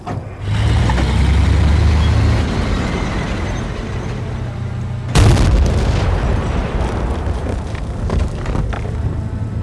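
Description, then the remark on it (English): A grenade explosion bursts out about halfway through, a single sharp, loud blast over a constant deep rumbling background that continues afterward with scattered crackles. “You're talking about the part when they yell grenade.”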